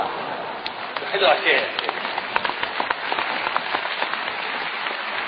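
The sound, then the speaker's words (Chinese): An audience claps for Yu Qian, steadily throughout, a dense crackle of many hands with a brief swell near the start, and faint voices mixed into the din. “其实我也知道啊，鼓掌都是为了于谦老师， 又来了 啊。”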